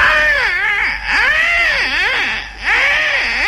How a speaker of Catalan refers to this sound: Y llegan allí donde está esta parte de cristal donde están todos los niños metidos en las canastillas. Y estaban todos los niños llorando.